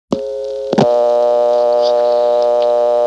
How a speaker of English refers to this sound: the digits 4, 5, and 6, when dialed initially, don't do anything at all except silence the dial tone.